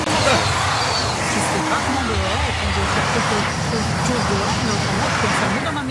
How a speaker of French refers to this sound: Ah, un train. Mais non, non. On dit on s'habitue au bruit, mais c'est non.